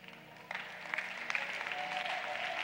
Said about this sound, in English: Are you clapping? Are you clapping?